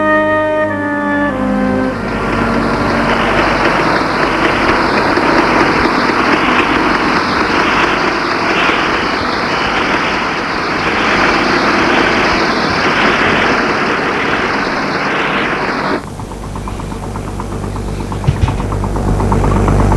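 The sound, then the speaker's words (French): A heavy truck engine rumbles steadily in the street for about fifteen seconds, with a rhythmic mechanical pulsing on top. Then it cuts off, leaving quieter street background and a brief clunk. “Réveillé par des bruits dans la rue, de camions, de pas sur les pavés.”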